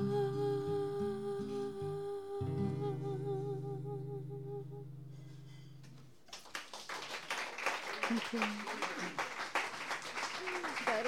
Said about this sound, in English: Wow. All right. Another round. Thank you. Applause.